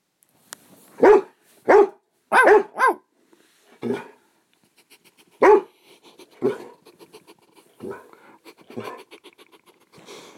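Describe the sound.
A voice imitates a dog's barking, with a rapid run of loud woofs followed by scattered, softer bark-like yelps trailing off.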